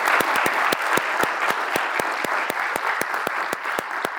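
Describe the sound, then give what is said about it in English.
A standing audience at a community event gives a round of applause to people being recognized, many hands clapping at once in a dense, continuous wash with sharper individual claps standing out, fairly loud and sustained throughout. “Please stand and let's give them a round of applause.”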